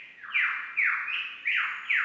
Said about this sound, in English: A lyrebird. Yep, lyrebirds make the sounds of other things. They can do any noises. Like what? Like a chainsaw. Like a telephone. They can do a motorbike noise.